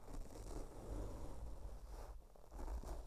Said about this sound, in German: Und für alle, die darauf gewartet haben, dass ich meinen Schnäuzer ASMR technisch mal an mein Podcast-Mikro entlang führe, hier kommt es.